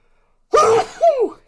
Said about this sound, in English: I need to sneeze.